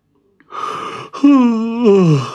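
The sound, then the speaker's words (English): A voice imitates the yawn of a black pig sitting in a front courtyard, a breathy intake rising into a long, drawn-out moaning tone that slides downward over about two seconds, fairly loud, with no talking. “the only thing blacker than the sty was Bertie the pig, sitting in the front courtyard and yawning”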